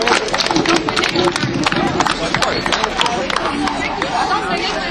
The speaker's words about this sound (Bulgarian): Нека да аплодираме и нея.